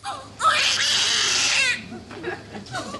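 newborn baby crying

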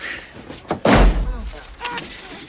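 door slamming shut

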